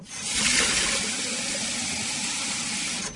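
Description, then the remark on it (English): A steady stream of tap water pours into a reusable water bottle as it is refilled, a continuous hiss and splash that stays even for a few seconds, with no voices. “A subsidiary of the Sea Alaska Corporation wants to make this the sound of bottled water.”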